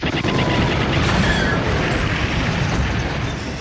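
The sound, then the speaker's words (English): A chopped-down laser cannon, pointed up from a TIE fighter's landing brackets, is fired through a metal hold ceiling: a loud, sustained blast of harsh roaring noise with a metallic shriek of metal and displaced air cutting through, overwhelming for several seconds. “The light produced by the shot was overwhelming, and the noise was a shriek of metal and displaced air.”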